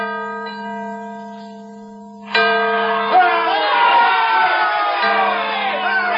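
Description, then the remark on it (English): The famed 202-year-old bell of Independence Hall, Philadelphia, repaired and rung on February 22nd, 1846 for George Washington's birthday, rings out with a deep, sustained tone that slowly fades, then a loud crowd bursts into cheering and shouting while the bell's hum lingers underneath. “The famed bell sounded clear and true.”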